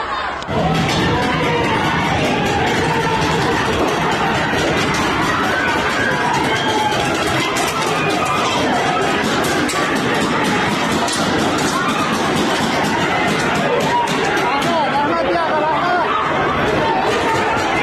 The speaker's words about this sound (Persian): معترضان در تعداد قابل توجهی از خیابان‌ها و محله‌های تهران بر علیه جمهوری اسلامی شعار سر دادند.